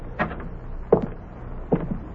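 household object, front door opening

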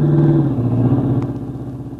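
vehicle, car driving past

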